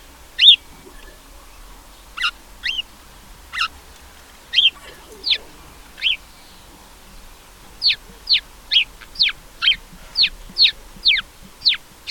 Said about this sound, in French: Vous avez deviné ? C'est le moineau domestique. Mais si, vous savez, l'oiseau marrant qui vous crie souvent dessus. Vous le croisez dans les jardins, dans les parcs, dans la rue, bref, partout où vous allez en fait.